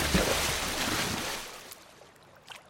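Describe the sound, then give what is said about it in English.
Steady wash of water rushing past a boat on the Mississippi River, a broad hiss that is loud at first and then eases to a softer flow, with a faint splash near the end. “It is a lovely day on the river.”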